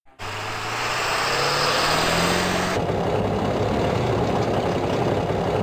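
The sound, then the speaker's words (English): An open-top car's engine runs steadily, a loud rumbling drone with a wind-like roar, its low pitch climbing slightly before the sound shifts to a rougher cruising tone. No one speaks. “No, I'm merely freezing in this open car.”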